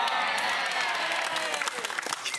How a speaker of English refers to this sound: Look at that. That just clapping, y'all. This is awesome for us.